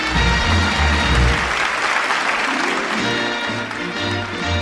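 audience applause

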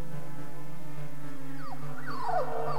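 dog howling and whimpering

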